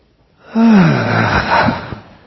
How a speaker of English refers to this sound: So, up. Let your knees get soft. Kind of. And then, as you come up again, do that big in-breath, doing this thing with your arms again.